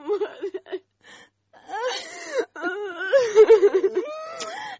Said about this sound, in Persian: دختر مادرت برد بمره، حتی … گریه میکنی.